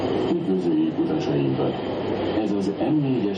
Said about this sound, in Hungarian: Így köszönti a hangos bemondó az utasokat a 4-es metrón.